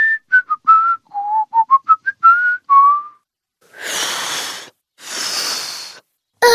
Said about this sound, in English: Just put your lips together and blow. Try making a smaller O shape. Like this. And then you can whistle a tune.